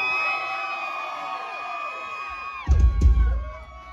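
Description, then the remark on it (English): A concert crowd on a Tuesday night cheers and yells in sustained, overlapping voices with high whoops. Near the end a sudden loud, booming swell surges through the noise before it fades. “That's my name, motherfuckers, make some noise.”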